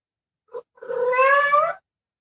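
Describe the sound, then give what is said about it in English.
A male cat lets out a short chirp, then a drawn-out, rising meow lasting about a second, fairly loud with no talking around it. “The cat, living your soul's dream.”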